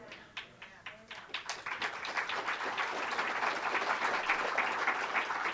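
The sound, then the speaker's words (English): An audience breaks into applause during a sermon about the kingdom of God: a few scattered claps at first, quickly building into dense, sustained clapping until the end. “I hope everybody that clapped really understood what I'm saying.”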